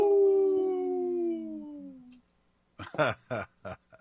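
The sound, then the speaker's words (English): A single long wolf howl rises clear and loud, then slowly slides downward in pitch before fading out, followed after a short pause by a few bursts of human voice. “This portion of the show is supported by Howling for Wolves, protecting wolves for future generations. Oh! Howl.”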